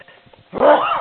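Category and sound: human body sound, sneezing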